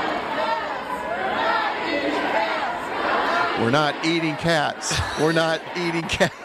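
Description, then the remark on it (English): A large crowd at Tim Walz's campaign rally in Michigan murmurs and cheers, then breaks into a loud, rhythmic chant in unison, repeating a short phrase twice with clear beats between syllables. “tell us what the crowd is chanting at Tim Walz' rally last night in Michigan”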